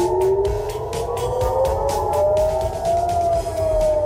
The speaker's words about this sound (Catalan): El so a diferents ciutats israelianes ha estat aquest, el de les sirenes que avisen quan es detecten projectils.